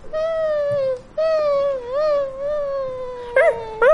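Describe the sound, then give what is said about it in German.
A dog whines and howls in long, drawn-out wavering tones, with a brief pause after the first cry, then ends on a couple of short, higher-pitched yelps. “Und was machen wir mit dem anderen Hund?”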